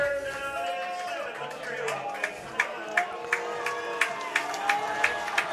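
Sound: football stadium crowd cheering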